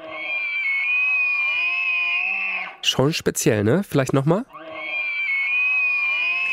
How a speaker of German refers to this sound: Das ist tatsächlich ein Elch und immer mehr Elche, die setzen ihre Hufe über unsere Landesgrenze.